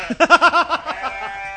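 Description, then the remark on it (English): A single wavering sheep bleat, a quavering nasal baa pulsing several times before trailing off, clear with no talking over it. “Come here, sheep.”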